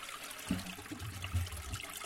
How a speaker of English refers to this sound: Stuff that gets flushed down the toilet that we think just magically disappears.